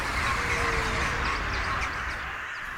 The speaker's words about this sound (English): Birds fly away from the school.